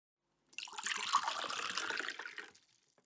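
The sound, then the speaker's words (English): Water runs from a tap into a glass in a steady stream for about two seconds, then cuts off. No one speaks. “I'll go get some water.”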